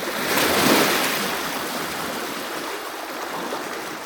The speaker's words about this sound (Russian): Море, огромное, лениво вздыхающее у берега, уснуло и неподвижно вдали облитой голубым сиянием луны.